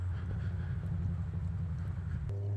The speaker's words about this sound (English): So far, traffic doesn't seem to be as much as it was last week. But there's still plenty of it.